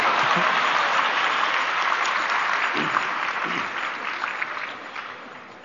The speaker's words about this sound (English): Please clap for yourself.